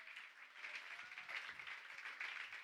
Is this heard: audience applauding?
yes